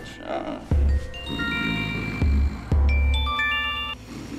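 A phone ringtone plays a bright, chiming electronic melody, repeating its short tune over a few seconds with punchy low beats landing at regular intervals.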